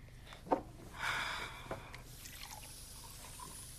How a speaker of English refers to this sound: She fills a glass with water.